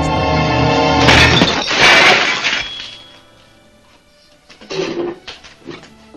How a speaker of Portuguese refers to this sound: Tem uma outra cena dela, aquela da tirar os pratos da mesa, né? É, aquele quebra tudo. Aquele é muito forte, cara.